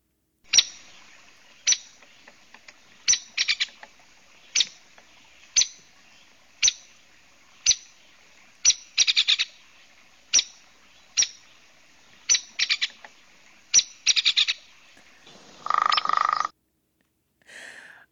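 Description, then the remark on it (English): Sharp, loud hairy woodpecker calls repeat at a slow, steady pace about once a second, some doubled, ending with a brief rattling burst and one last call. No one speaks. “let's take a listen to what each of these birds sound like. We can start with the hairy woodpecker.”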